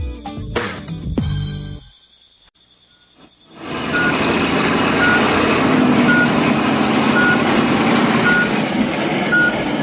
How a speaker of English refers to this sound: Is this a garbage truck? You want to pull the lever again? No, it's too noisy.